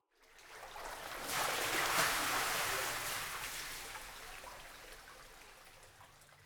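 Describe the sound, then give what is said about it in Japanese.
Water sloshes in a bubble-filled tub, rising to a full splash and swirl that then settles slowly into a softer, fading wash. No one speaks. “はーい、お兄ちゃん、今度は泡風呂だよ。あ、さ、湯船に入って。”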